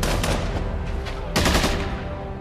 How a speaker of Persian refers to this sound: آره. به چی شلیک میکنن؟ نمیتونم. قایم شو.